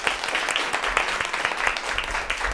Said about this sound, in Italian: È un salone che in realtà non è così tanto spento, perché vogliamo fare un applauso per far sentire quanti siamo.